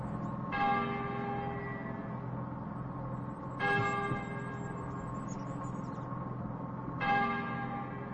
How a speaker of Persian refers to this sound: او با صدای ناقوس کلیسا از خواب بیدار می شود. کمی دورتر چشمش به کلیسای کوچکی می افتد.